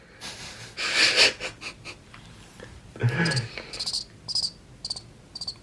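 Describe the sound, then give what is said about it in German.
Crickets chirp in quick, rhythmic high-pitched pulses, moderately loud, with a couple of breathy rustling bursts mixed in and no talking, inserted as a sound effect. “Da kannst du jetzt so Grillenzirpen einblenden.”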